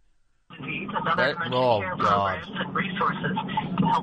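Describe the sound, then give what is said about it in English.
A GPS navigation voice from a caller outside Portland comes through a narrow, tinny phone line, talking steadily for several seconds at a moderate level after a brief silent start. “Would you mind turning your GPS down, please?”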